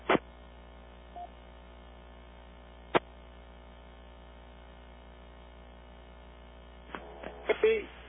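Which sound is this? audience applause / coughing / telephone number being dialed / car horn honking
telephone number being dialed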